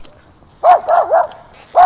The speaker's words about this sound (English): Is it a doggy? Say hi, doggy. Doggy? That's a doggy.